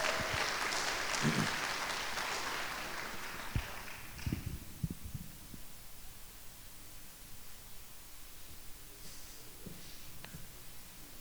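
A crowd gives a round of applause for a group of students who gave a week of their summer to a trip, a dense, steady burst for about four seconds, then the clapping thins out and fades, leaving a few scattered thumps and a low hiss.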